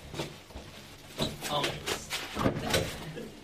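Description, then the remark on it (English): An airlock door at a New Zealand facility for examining organisms new to New Zealand opens and closes. The airlock keeps negative pressure so organisms can't escape. It gives a cluster of sharp clunks and rattling knocks in quick succession over a low, steady background hum. “Into the airlock. So there really is an airlock? Mm-hmm, absolutely, yeah. It's to keep negative pressure so any organisms can't escape.”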